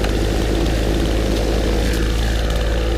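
A plane flies overhead, its engine a steady, loud roar with a deep low rumble and a broad hiss that holds unbroken for a few seconds, with no voices.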